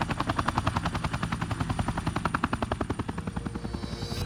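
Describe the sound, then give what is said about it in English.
A police helicopter touching down on a beach thumps loudly, its rotor blades beating in a fast, steady rhythm with a whining engine underneath, easing slightly toward the end. No voices. “Joey arrived just moments after a police helicopter touched down on the nearby beach.”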